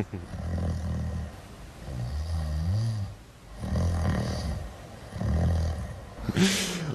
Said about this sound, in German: Ja, das hat man gehört. Echt? Ja. Habe ich geschnarcht? Ein bisschen. Oh, das tut mir leid.